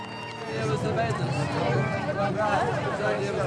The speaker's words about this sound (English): A crowd cheers them on from the pier.